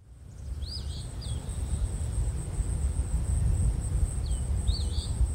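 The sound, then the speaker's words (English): An eastern phoebe sings its raspy two-part song twice, once near the start and again near the end, over a steady high insect drone and low wind rumble outdoors. “And now we'll give a listen to the eastern phoebe.”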